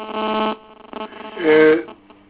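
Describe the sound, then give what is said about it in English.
A member's phone rings in a legislative chamber during a session with a bright, electronic melodic tone in short tonal bursts, the loudest near the end, heard over a muffled, thin-sounding pickup amid faint voices. “No, it's he must sort out this phone thing because I warned the members.”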